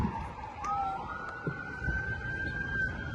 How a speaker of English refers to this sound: Damn ambulance. Sirens drive me nuts.